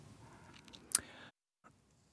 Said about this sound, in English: Keyboard keys, tapping. Okay. Two-fingered, I only use two fingers. I go quickly.